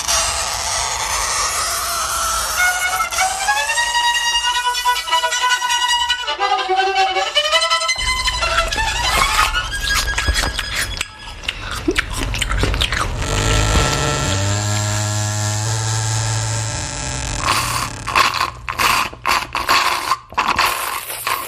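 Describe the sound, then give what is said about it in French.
A run of grating sounds in turn: shrill chalk screeching on a board and a first-year beginner's scratchy, wavering violin, then a long creaking door, followed by wet, clicking chewing and sucking through a straw in a nearly empty glass. No talking throughout. “Alors, vous aurez reconnu successivement craie sur tableau, violon débutant, hein, première année, on espère pour lui, porte qui grince, mastication, aspiration à la paille dans un verre presque vide.”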